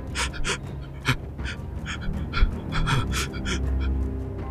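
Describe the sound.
A voice imitates rapid, light, frantic panting: quick breathy huffs repeating in an uneven rhythm at moderate volume, with no words spoken.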